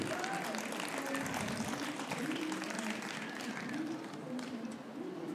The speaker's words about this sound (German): Nochmal ein extra Applaus für diese drei Titel.